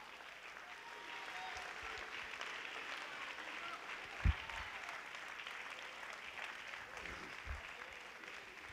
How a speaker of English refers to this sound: Let's all stand to our feet, clap your hands, and worship the Lord.